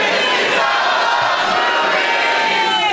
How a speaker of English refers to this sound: That's even, like, a bigger crowd would be less loud than that. You guys are awesome. And we're coming to you once again, and that's why I keep coming back, from a Helium Comedy Club. It's a gas! In Portland, Oregon!